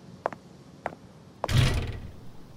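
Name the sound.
door being opened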